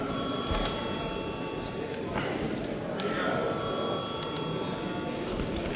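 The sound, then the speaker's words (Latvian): The voting bell of the Saeima rings continuously for several seconds before a vote on a committee proposal, a steady, bright metallic tone with high overtones over a low background murmur. “Lūdzu zvanu.”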